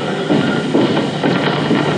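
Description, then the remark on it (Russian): Clumsy footsteps thud at a steady plodding pace, about two per second, muffled and low, set against a constant dense rumbling background noise with no talking. “Слышу его нелепые шаги.”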